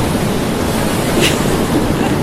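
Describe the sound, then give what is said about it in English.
Loud, continuous roar of rough sea waves churning with gusting wind at the height of a storm as a vessel leaps up and down in the waves, a dense wash of noise with a brief surge of spray partway through. No voices. “The storm was at its height. All sense of direction was lost.”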